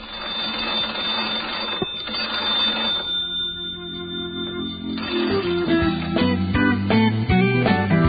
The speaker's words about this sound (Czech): Ovo je zvuk 2 najstarija induktorska telefona u Srbiji.